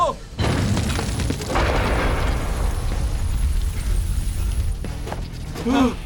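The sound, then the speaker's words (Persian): Heavy booming blasts of cannons being fired roll in one after another, a sustained loud barrage of cannon fire, explosions and rumbling impacts with a brief shout near the end. “ولی قربان اینا اصلا دقیق شلیک نمی کنن.”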